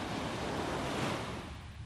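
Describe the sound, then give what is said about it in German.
Ocean surf washes steadily onto a beach in the early morning just after sunrise, a broad continuous rush of breaking water that swells slightly then eases, with a hint of wind and no voices. “Ich habe mir gedacht, ich nehme dich heute einfach mal mit ans Meer.”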